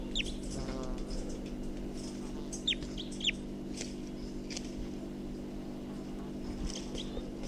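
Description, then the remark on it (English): A few sharp, high calls from a bird recorded as bird number 254, brief downward-sweeping chirps heard several times and spaced unevenly over a steady low droning hum, with soft clucking sounds in the background. “So recording, this is bird 254 again.”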